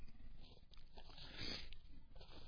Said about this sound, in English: I pulled a $10 bill out of my billfold. That's one of one I got. If I'd had a bigger bill, I'd pulled it out also.